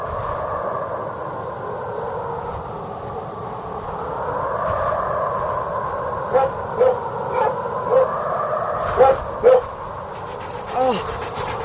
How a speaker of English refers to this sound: Oh, ma'am, get dog off me.